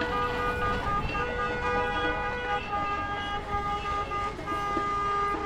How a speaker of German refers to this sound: Autofahrer reagieren sehr unterschiedlich, manche winken ganz freundlich und andere fangen böse an zu hupen.